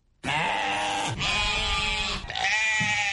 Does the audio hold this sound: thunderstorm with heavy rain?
no